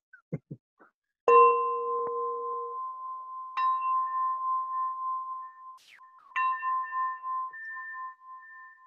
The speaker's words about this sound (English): All right. We are now starting. Let me ring my bell to make it more formal.